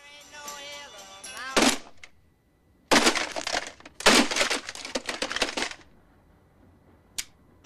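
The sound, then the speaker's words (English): A ringing alarm clock showing 6 a.m. is cut off by a loud smash as Phil punches it, then a rapid flurry of heavy blows crashes and rattles as he beats it until it breaks, ending in one sharp final clack. “This time, he punches it until it breaks.”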